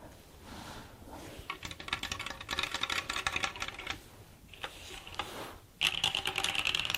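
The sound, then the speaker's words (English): Rapid, steady clacking of keys on a Drop Sense 75 mechanical keyboard during a 30-word typing warm-up, fairly loud, running in bursts with a brief pause near the middle and a sharper, brighter stretch at the end. “This is the Sense 75 drop keyboard.”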